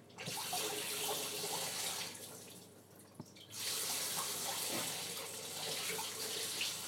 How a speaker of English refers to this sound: Water seems to be going through a mode of either being under really high pressure or no pressure at all.